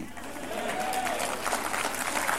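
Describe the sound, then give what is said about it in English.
A crowd claps steadily in continuous, dense applause that fills the whole moment, responding to a speaker announcing a fast from TV, with a faint voice or murmur drifting underneath the patter of many hands. “I hear you clapping now.”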